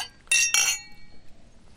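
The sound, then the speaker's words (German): Two quick, bright clinks of glasses touching in a toast, with a short ringing shimmer that fades. No voices. “Auf euch. Prost. Cheers. Auf die Nacht.”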